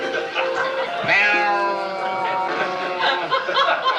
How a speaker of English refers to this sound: Darn cats.